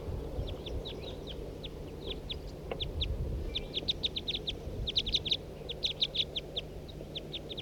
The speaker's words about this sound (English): Start recording a big flock in flight.